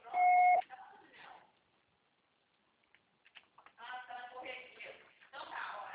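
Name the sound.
answering machine beep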